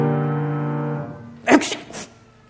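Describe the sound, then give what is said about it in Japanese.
Two sharp, loud sneezes in quick succession from someone with a cold at a bus stop in the rain, following a fading low hum that dies away beforehand. “彼は風邪ひきの人がしつこいくしゃみに悩まされているのを聞いた。”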